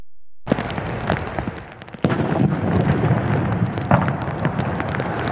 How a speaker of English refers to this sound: The VPD's emergency response team conducted a controlled explosion.